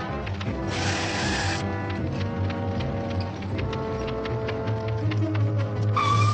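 A truck engine rumbles steadily as the truck drives off, with rattling, clattering mechanical noise throughout, a low drone swelling toward the end and brief hissing bursts near the start and finish, with no voices.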